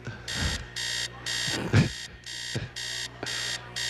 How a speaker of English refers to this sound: The alarm gag.